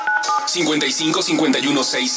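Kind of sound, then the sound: signal or alarm, telephone keypad dialing tones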